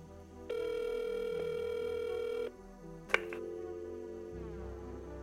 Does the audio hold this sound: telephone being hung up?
yes